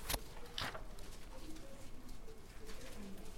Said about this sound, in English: Still hear pages turning.